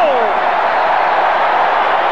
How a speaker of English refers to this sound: Oh! A new Bulls record. Michael Jordan, 57 points. Oh, listen to the crowd, Jimmy.